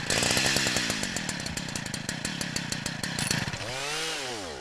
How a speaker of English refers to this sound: We're going to turn the auger on, close the choke, give her a pull.